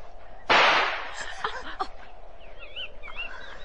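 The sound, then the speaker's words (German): A single sharp pistol shot cracks out loudly and rings off in a quick fading tail, followed by a few faint clicks and thin, high bird chirps. “deine Pistole!”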